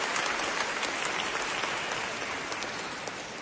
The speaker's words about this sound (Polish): Dziękujemy im wspólnie za to, że są dla nas kochanymi przyjaciółmi. Brawa dla nich, podziękujmy im.